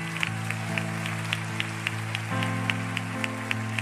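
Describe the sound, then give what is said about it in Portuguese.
A church audience claps along during a worship service in a steady, regular rhythm over sustained, held keyboard chords, the crisp claps fairly soft against the droning music and no voices. “Pode dar mais um aplauso.”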